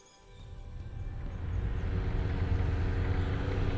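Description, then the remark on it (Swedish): Low, rumbling engines of a motorcycle followed by a tractor grow steadily louder as several vehicles with headlights approach across rice fields in the morning fog. Their throaty drone builds from faint to loud, with no voices. “Du hör motorljudet innan du ser något. I horisonten skär strålkastare genom morgondimman. En motorcykel först, sen en traktor.”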